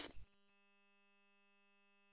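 A brief crackle of radio static gives way to a steady, buzzy electronic radio response beep that holds at an even level for about two seconds. No voices are heard.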